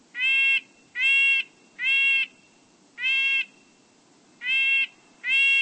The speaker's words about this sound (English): The word nasal comes to mind when describing the call of a red-breasted nuthatch.